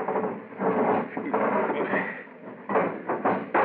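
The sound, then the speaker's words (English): A submarine's heavy metal sea chute hatch grinds open with a sustained mechanical clatter and scraping that surges in several rough pulses over a few seconds, with no voices. “open the sea chute.”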